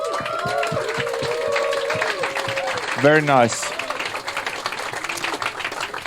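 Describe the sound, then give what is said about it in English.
An audience applauds a band in a steady, dense wash of clapping that runs the whole clip, while a man's voice speaks briefly over it near the middle. “And I think they deserve a huge applause for that.”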